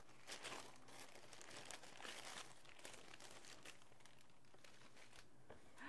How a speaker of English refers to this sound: Wanna rip the paper? Wanna rip the paper?